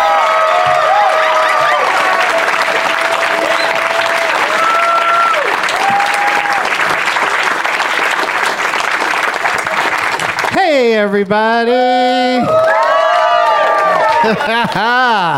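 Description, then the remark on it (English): A fired-up crowd at a live taping of the show Doug Loves Movies at Flappers Comedy Club applauds and cheers loudly for about ten seconds, thick steady clapping with a few whistles cutting through, before a man starts talking as the noise drops away. “Let's read to this fired up crowd.”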